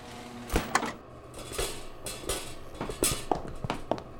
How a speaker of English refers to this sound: Doors opening.